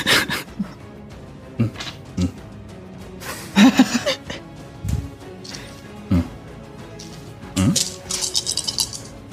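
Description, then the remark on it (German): Four eight-sided dice clatter and tumble across a hard surface in a few bursts of sharp clicks and rattles, with brief quieter gaps between the rolls; they land on 1, 1, 1 and 2. “Ich habe gerade 4d8 gewürfelt und es waren 1, 1, 1, 2.”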